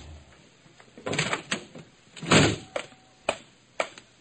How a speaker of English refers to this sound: I opened the front door of the rendezvous and stepped into a shambles.